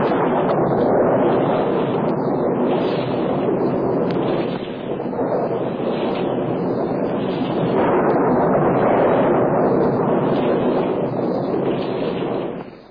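A loud, continuous storm roar with rumbling thunder and rushing wind, swelling and easing in slow surges, dense with no voices. It is a terrible storm raised by Mara's forces, hurling lightning bolts down around the meditating Siddhartha.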